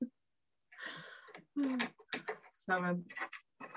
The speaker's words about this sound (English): Sorry, that's the talky cat. My cat's already just scratching at the door.